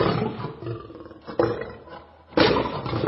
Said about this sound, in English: A lion? Indeed.